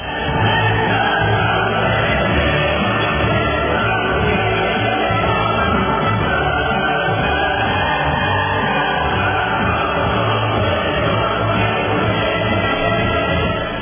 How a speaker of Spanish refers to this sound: Vamos a darle los aplausos entonces.